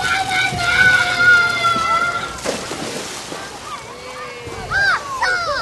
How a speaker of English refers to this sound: It's hot here. We're sitting under shade at 110 degrees, and there's kids jumping in and playing and splashing and going down slides, having a great time.